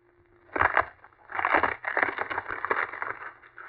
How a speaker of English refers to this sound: Professor, did you see that? He shattered the log into splinters. A very trivial feat.